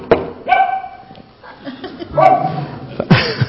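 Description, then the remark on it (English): A dog barks a few times, three sharp, yelping barks spaced out with short pauses, fairly loud, with no talking. “That's what dogs do when there's a knocking on the door.”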